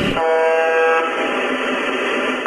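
A steady, droning buzz from a shortwave radio station, a transmitter of the 43rd radio network of Moscow, rich in harmonics over a bed of static hiss, holding one unchanging pitch throughout with no voices, ending in a slight blip.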